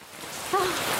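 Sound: heavy rain falling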